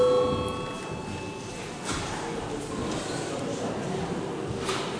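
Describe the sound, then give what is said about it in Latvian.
A session bell in the Saeima, Latvia's parliament, rings before deputies' registration with a steady, sustained metallic tone for about two seconds, then cuts off, leaving low rustling and shuffling with faint murmuring voices. “Lūdzu zvanu.”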